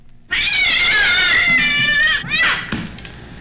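A cat that has just received an old-style killed tissue feline distemper vaccine lets out a long, loud, distressed meow that wavers in pitch, followed by a second rising yowl, with no one talking.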